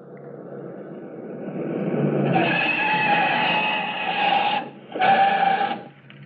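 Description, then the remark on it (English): A Pontiac sedan's engine grows louder as it approaches on a road, with a whining tonal squeal, then brakes to a stop after a brief final surge. “I hope he sees the plane in time to stop. He'll stop, all right. Here he comes.”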